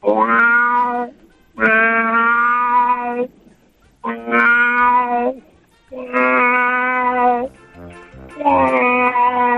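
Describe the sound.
A person imitates an annoying cat in heat that wants to get out of the house, with five long, drawn-out yowling meows, each lasting over a second, repeated one after another with short pauses between, loud.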